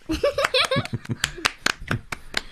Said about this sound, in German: Super. Ich danke euch. Das war ein sehr schöner Applaus.